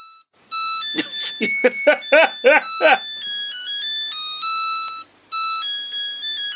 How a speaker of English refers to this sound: We'll have put up the exact 8-bit version that the washing machine does.